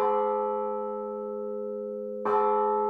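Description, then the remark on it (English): A large, deep cathedral clock bell striking twelve; two tolls are heard, each strike ringing out with a long, humming resonance that slowly fades before the next blow lands, heard alone. “When the cathedral clock struck 12, there was an answer, like an echo of the chimes,”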